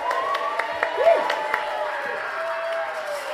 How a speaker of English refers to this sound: Give Woody a round of applause.